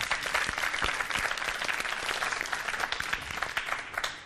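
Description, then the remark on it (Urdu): Loud, sustained applause from a crowd on a quiz show, a dense patter of many hands clapping steadily for about four seconds before tapering slightly, with no voices heard, to encourage Team C after it makes its choice of a dish. “Team C نے انتخاب کیا ہے اس ظرف کا, ان کی حوصلہ افزائی ہو جائے زوردار تالیوں کے ذریعے.”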